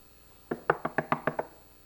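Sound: knocking on a door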